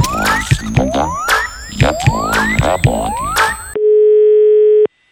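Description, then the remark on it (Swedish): A bouncy electronic jingle with rising, boing-like sweeps gives way to a single steady telephone ringing tone as a robot places a phone call, held loud for about a second before it cuts off. No voices. “Singelroboten ringer och raggar.”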